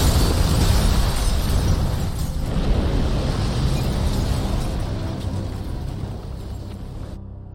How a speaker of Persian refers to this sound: به نظرت از چی استفاده کردن؟ HMAs؟ انفجار به این بزرگی؟ شاید CL20 باشه. آره، ولی فکر میکنم HMAs در دسترس تره. درسته، ولی CL20 قوی تره.